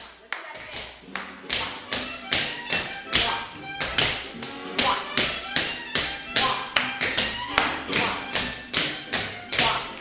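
Rapid, crisp tap dancing steps from a tap dancing teacher and her students doing the Copacetics chair dance clatter in a steady, syncopated rhythm, with sharp metallic taps and occasional heavier heel thuds, fairly loud with no talking over them.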